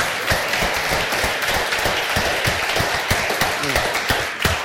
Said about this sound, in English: Praise God. First thing we need to do, we need to do it together. Would you please applaud the Lord with me for a great night's sleep?